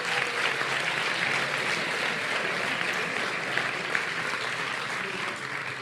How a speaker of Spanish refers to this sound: Y los nominados son El vuelo de York, El rugido de mi impala, El octavo día y Subterránea. Un aplauso para ellos.